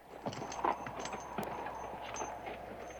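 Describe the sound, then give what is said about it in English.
A horse's hooves clop unevenly on a hard stone bridge as it is crossed, a few sharp knocks over a steady low outdoor background, with no voices. “Crossing over a stone bridge, Hogan dismounts, tethers his horse and checks the mule's hoof.”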